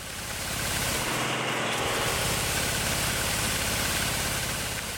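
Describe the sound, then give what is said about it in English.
A tractor shaking olive trees during an early olive harvest, gripping each tree with a fork while the olives fall into an upside-down umbrella beneath: a loud, steady rushing roar with a low engine drone beneath it, continuing unbroken for about five seconds. “stillness is abruptly broken by the sounds of an early harvest in full”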